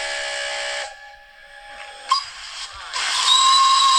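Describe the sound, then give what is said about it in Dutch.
A heavy steam whistle blasts loudly with a harsh, hissing roar, drops off briefly, then sounds again in bursts before swelling into a sustained, shrill whistle with strong steam hiss. “Ja, dit is de stoomfluit van de kraan. Die enorm zware stoomfluit die je ook hoort.”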